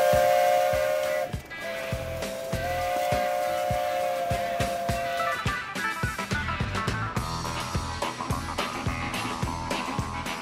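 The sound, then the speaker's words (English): A steam locomotive on the Riverside and Great Northern Railway in Wisconsin blows its whistle in long steady tones over the first half, then gives way to loud hissing steam and rhythmic chuffing, sustained, with no voices. “And did I mention steam locomotives?”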